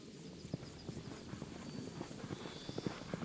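horse hooves approaching

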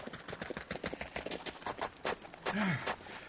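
horse hooves galloping away

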